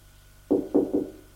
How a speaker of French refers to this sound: On a frappé à la porte.